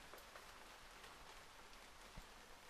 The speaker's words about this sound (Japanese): 静かですね。雨音しか聞こえません。